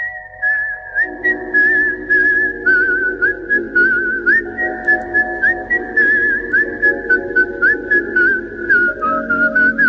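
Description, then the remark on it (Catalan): A clear, steady whistled melody from a film soundtrack glides and bends over a backing of instrumental music with a regular, rhythmic pulse, continuing throughout without any voices. “És molt inquietant aquesta cançó, eh?”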